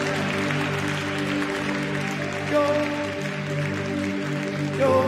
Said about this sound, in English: Hallelujah. Let's celebrate God with a clap offering right now.